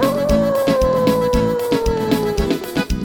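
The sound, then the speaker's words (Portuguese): A dog named Pitoco howls in one long, sustained note that slowly sinks in pitch, fairly loud, over a steady rhythmic thumping in the background. “Pitoco uivou, o que que ele tá fazendo, Pitoco?”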